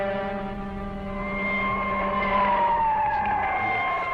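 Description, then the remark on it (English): A warning klaxon at the Cape Canaveral rocket launch site blares steadily, a harsh, buzzy tone rich in harmonics that holds its pitch and then slowly slides downward near the end. It is loud and continuous, with no voices. “Warning klaxons at Cape Canaveral.”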